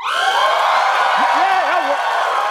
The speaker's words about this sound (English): Well, you guys might be cheering, but when Democrats in the House tried to cheer last night, Nancy Pelosi shut it down real fast.